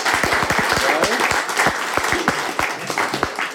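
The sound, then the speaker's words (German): A crowd applauds a contestant, clapping steadily for several seconds, a dense patter of many hands with a few sharper individual claps standing out, fairly loud, with faint voices mixed in. “So, und ein Applaus für unseren tapferen Kandidaten.”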